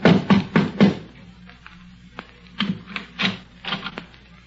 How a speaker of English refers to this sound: A half hour later, the doctor and his credulous patient mounted the steps of the porch of the Underwood home together. The doctor knocked at the front door.